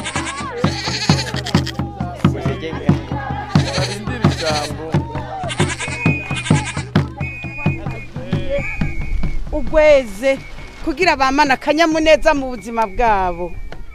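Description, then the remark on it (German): Several goats, each tethered to a small wooden stake in clay ground on a football field at the edge of a eucalyptus forest, bleat in quick, overlapping bursts, their wavering, nasal calls repeating steadily before giving way to longer, quavering cries toward the end. “Im Lehmboden stecken kleine Holzpfähle, an denen je eine Ziege angebunden ist.”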